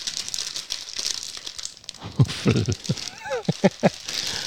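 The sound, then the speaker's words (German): A silver foil bag without a zip crinkles and crackles, first as a steady rustle, then in a series of sharp, irregular bursts as it's handled and torn open. “Aber ein Zip hat sie definitiv nicht, auch diese silberne Tüte nicht. Ich glaube, das ist eine Perforation zum Öffnen, kann das sein?”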